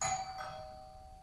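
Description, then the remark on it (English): An ordinary doorbell rings once, its bright chime tones sustaining and slowly fading with no voices, heard clearly at moderate volume. “It all begins, quite simply, with the ring of an ordinary doorbell.”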